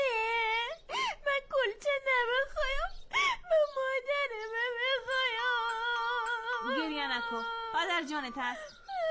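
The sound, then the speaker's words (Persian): A child cries and whimpers in long, wavering wails broken by short sobbing breaths, fairly loud, with the crying continuing almost without pause. “مادرت هستم، گریه نکو دیگه.”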